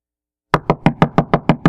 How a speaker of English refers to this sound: Knocking on the door.